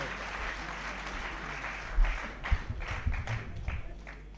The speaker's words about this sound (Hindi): जोरदार ताली बजा करके स्वागत करो